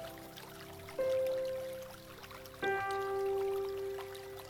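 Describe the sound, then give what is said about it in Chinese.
Steady babbling of a clear, cool mountain stream flowing down from the mountain runs throughout at moderate volume, with soft sustained chime-like tones swelling in twice over it; no one speaks. “注意听水流动的声音，因为这条小溪来自这座山。”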